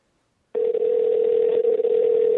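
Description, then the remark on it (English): A steady, unbroken telephone dial tone starts after a brief silence and hums on at one low pitch, loud and continuous, with no voices, as a phone call is placed; the line then rings. “Now it's ringing.”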